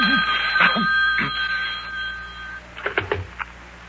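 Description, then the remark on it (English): A telephone bell rings loudly and steadily for about two and a half seconds, then stops, followed by a few short, indistinct vocal sounds. “Wait a minute while I answer the phone.”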